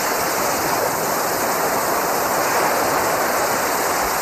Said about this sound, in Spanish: No sé por qué hay ese sonido de agua.